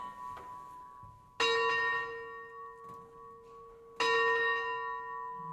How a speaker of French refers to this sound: Je suis pas très bonne sonneuse. Hein. Je n'arrive pas à faire revenir le tympan pour avoir deux.